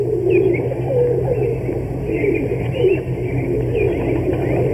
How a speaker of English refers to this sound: As he approached, a sort of barnyard symphony greeted his ears, the cooing of pigeons.